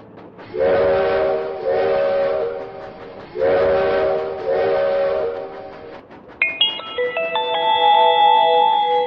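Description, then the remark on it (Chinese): A steam train whistle sounds two long, loud blasts in a row as a little train starts moving again toward its next stop, followed by a brief, bright chime-like melody of stepped tones. No one speaks. “亲爱的小朋友们，刚才我们看到的是蕨类时代的景象，现在我们的小火车又要继续开动了。”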